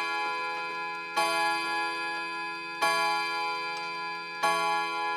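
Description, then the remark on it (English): A clock chime strikes the hour with three loud, evenly spaced bell tones, each a bright metallic clang that rings on with a long shimmering decay, over an earlier tone still fading out. “It's a cracking chime.”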